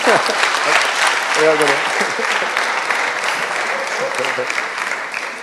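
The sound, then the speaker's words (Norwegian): Steady, dense applause from an audience fills the whole stretch, loud and even, with a few brief voices calling out partway through before the clapping slowly thins toward the end. “Klapp!”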